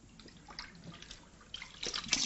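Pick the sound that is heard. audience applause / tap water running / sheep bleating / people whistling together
tap water running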